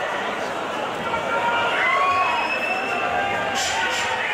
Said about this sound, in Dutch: Maar goed, er circuleren meerdere opnames van het concert en daar hoor je heel duidelijk mensen in het publiek roepen, smeerlappen!